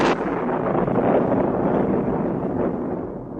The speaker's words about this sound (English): when the lightning storm, which had not impressed him up to now, suddenly intruded.